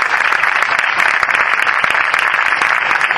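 Steady, loud applause from an audience as panel guests are introduced, dense overlapping claps filling the whole stretch without pause and no voices rising above it.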